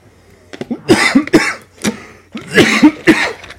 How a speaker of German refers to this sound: Ja, und ich habe schrecklichen Husten. Also schrecklich viele Leute, die ihn hören, mich stört er nicht. Haben viele gerade, der geht ja auch gerade wieder rum.